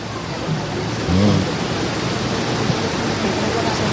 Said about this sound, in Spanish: Pero, a ver, querías un poquito más de mar, ¿no? Atención, sonido ambiente.